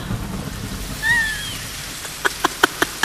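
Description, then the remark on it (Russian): Rain begins falling with a steady, hissing patter. A brief high whistle rises midway, then a run of sharp, evenly spaced taps, like heavy drops striking a surface, closes it out. “Маэстро, кажется, дождь собирается.”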